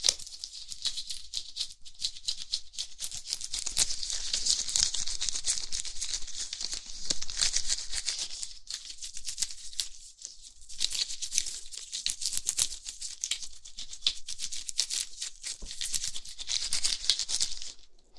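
A scalpel, used in place of a razor, scrapes across skin to shave hair from the whole body, making a steady, bright, scratchy rasp of quick overlapping strokes that pauses briefly midway, with no talking.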